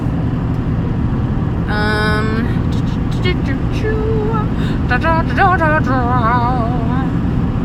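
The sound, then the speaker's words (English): Steady, loud engine rumble heard from inside a moving truck, a low continuous drone throughout, with brief bursts of voices rising over it partway through. “Okay, now it's too hot in this truck.”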